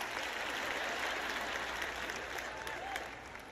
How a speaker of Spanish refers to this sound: ¿Dónde están los aplausos por esto?